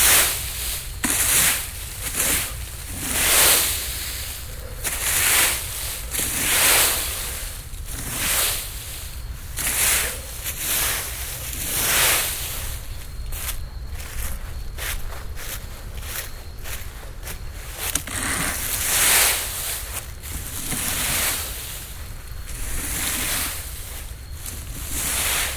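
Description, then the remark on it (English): Footsteps crunch through dried fallen leaves in a steady walking rhythm, each step a loud, crackly rustle over a constant low background hum. “It's all leaves. Dried fallen leaves.”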